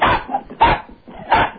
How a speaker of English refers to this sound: This is like that crazy barking. It's the rat, rat, rat, rat.